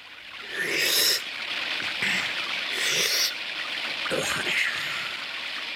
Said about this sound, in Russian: Дай-ка я последний раз выпью водицы из ентового источника.